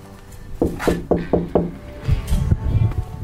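Four or five quick, crisp knocks on a wooden door of a home in Klitmøller, Denmark, in a steady rhythm, followed by muffled shuffling and faint movement sounds.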